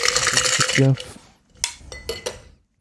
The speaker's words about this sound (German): Und noch ein bisschen rühren.